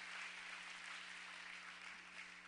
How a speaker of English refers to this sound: Let's clap our hands and thank the Lord for what He is doing around the world.